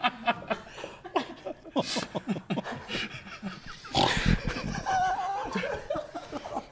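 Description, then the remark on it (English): Bursty laughter with a loud nasal snort about midway, a person imitating a pig's grunt, followed by more giggling and chuckling. “Don't snort”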